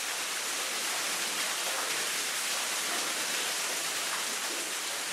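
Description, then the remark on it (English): A steady, continuous roar of rushing water from the Buckner waterfall in a cave, dense and hissing with no breaks or changes in loudness, heard alone without any voices. “My theme music is the Buckner waterfall.”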